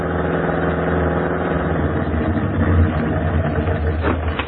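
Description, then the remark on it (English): A car engine idles, a steady low rumble with a faint rhythmic pulse that holds even throughout, with no voices. It is the new Red Cross Motor Corps car used to carry observers to the Cat Canyon post in the early morning. “Hey, is this the new car they're hauling us around in?”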